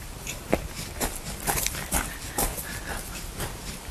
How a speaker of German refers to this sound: So, da sind wir ja beim Pferdestall angekommen. Man kann hier sogar direkt reinluschern und die Tiere begrüßen. Ja, Pferdeliebhaber kennen ja vor allem das Trakehnergestüt hier. Hier werden ganz edle Pferde gezüchtet.